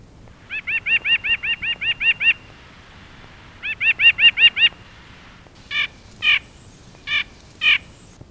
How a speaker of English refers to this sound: White-breasted nuthatch. Listen for the nut hatches. Yank, yank, yank, yank, yank, yank.